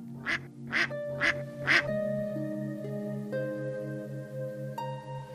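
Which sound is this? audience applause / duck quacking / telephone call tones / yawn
duck quacking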